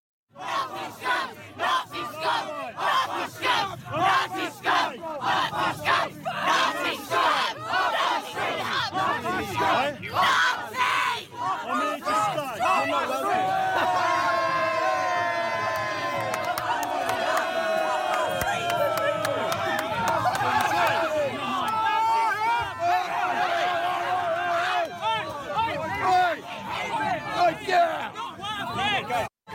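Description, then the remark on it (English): A large crowd of left-wing protesters shouting and yelling angrily at a lone Trump supporter, an older man, with many overlapping raised voices forming a loud, continuous roar; sharp bursts of jeering and chanting rise and fall throughout the half-minute. “Here's one Trump supporter in a crowd of these left-wing fascists.”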